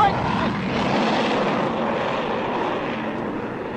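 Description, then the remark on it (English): A loud, steady roar of a fighter plane's engine, a broad rushing drone that holds constant throughout as the aircraft flies overhead. “Sounds like a plane of some kind. Hey, Doc, look. It's one of our fighters.”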